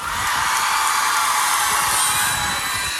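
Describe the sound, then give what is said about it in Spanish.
A concert audience screams and cheers in a dense, steady roar that fills the whole stretch, loud, with high-pitched shrieks blending together and no clear pauses. “Yo también grito como ustedes, por dentro, sí, no puedo.”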